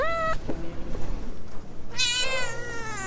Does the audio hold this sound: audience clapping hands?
no